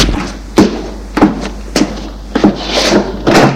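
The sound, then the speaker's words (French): A wooden cellar door being worked open, with a series of hollow knocks and rattling thuds at uneven intervals over a low steady hum, no voices. “Il va ouvrir une porte de cave en bois.”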